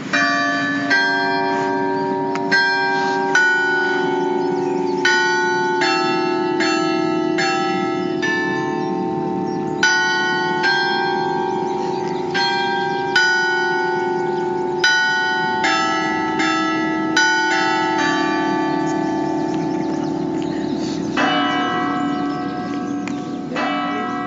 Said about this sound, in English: The basilica bells ring the tune of Ave Maria before chiming out the hour.